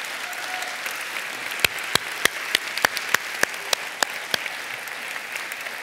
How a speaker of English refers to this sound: Yeah, let's clap.